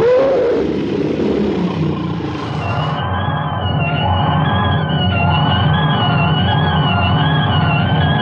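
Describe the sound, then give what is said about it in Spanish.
A tiger lets out a loud, sustained growling roar as it lunges to attack, rough and rumbling with a wavering tonal edge, unbroken, with no voices present. “Calimán rápidamente acerca la cerbatana a sus labios en el preciso instante en que el tigre se lanza al ataque”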